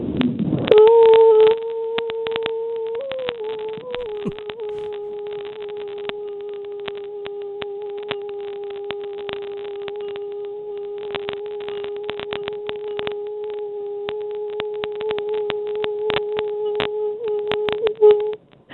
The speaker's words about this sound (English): Longest vocal note whenever you're ready. 3, 2, 1, go.